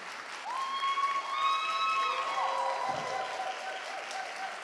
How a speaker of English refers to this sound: So let's welcome our panelists out here. Come on out, y'all. Let's clap it up for them.